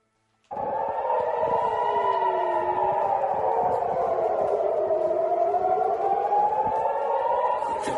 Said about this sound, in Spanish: Así es la vida cotidiana en Israel, las alarmas que suenan para alertar que van los misiles en camino.